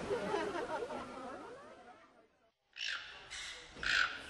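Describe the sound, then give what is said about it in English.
A parrot at a zoo chatters and warbles with wavering calls, falls quiet briefly, then lets out three harsh, raspy squawks in quick succession, the last one loudest. “I just saw a parrot over here.”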